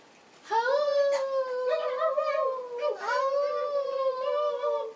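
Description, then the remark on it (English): A long, wavering howl of wolves and coyotes rises and holds for several seconds, dipping briefly partway through before continuing, on a beautiful day at Seminakim, where two rivers meet. It is loud, with no talking. “The Heyuchs rabbits were jumping, Himin wolves and Itziaya coyotes were howling.”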